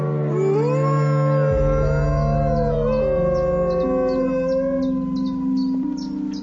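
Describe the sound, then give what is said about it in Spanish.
Several wolves howl together in a sustained chorus, long overlapping wavering tones rising and falling, loud, with no talking. “Los aullidos garantizan que las manadas enemigas se mantengan a una distancia prudencial unas de otras para evitar conflictos por las presas.”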